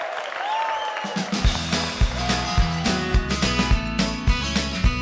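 A crowd applauds with a dense, steady patter of clapping, and after a moment loud band music with a thumping, regular beat starts up underneath the ongoing applause.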